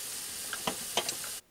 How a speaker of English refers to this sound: Just autumn kitchen ambience, cutting vegetables. This is what we need.